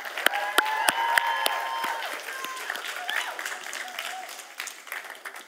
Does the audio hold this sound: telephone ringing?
no